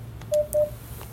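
A conference line chimes as a disconnected participant dials back in: two short, evenly pitched electronic beeps in quick succession, clear and fairly loud over a faint low background hum.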